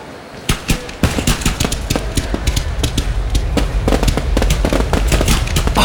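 An indoor fireworks display in the middle of a hall at the Pacific Megapark: a few sharp separate bangs give way to a dense, continuous barrage of loud crackling pops and bursts over a rumbling background, with no voices.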